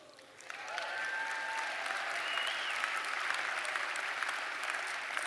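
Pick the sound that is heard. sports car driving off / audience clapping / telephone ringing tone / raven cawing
audience clapping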